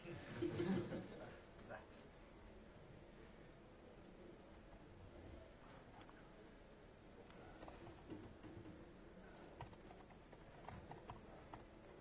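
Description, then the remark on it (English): Faint, irregular clicking of laptop keys on a stage, arriving in scattered short bursts over a low background hum, with a brief louder rumble near the start. “Typing on a stage like this is a lot harder than typing otherwise.”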